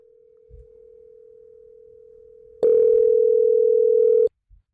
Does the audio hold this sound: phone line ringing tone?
yes